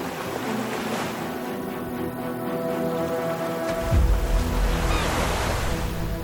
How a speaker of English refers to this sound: Boats are moving up and down in the cool sea breeze. Seagulls flying over the beach.